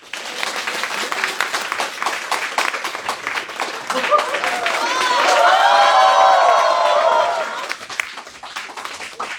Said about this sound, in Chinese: 我们也请到了我们几位老朋友和新朋友，我们先欢迎两位老朋友好不好，让我们掌声欢迎